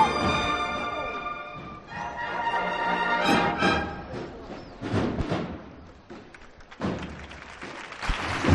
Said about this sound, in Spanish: Y el paso que ahora abre el compás, este aplauso con el que lo recibe la campana, vaya los ojos de emoción que estamos viendo en el cuerpo de acólitos, en los capataces, en los aguadores.